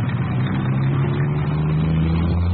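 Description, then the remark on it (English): The engine of a white convertible car revs with a loud, steady low rumble and strong humming tones that hold nearly constant pitch throughout, with no voices over it. “Can I try the motor?”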